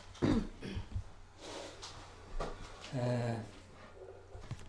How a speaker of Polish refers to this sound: Ktoś ma mikrofon włączony, prosiłbym, żeby sprawdzić, bo ktoś kaszlał teraz.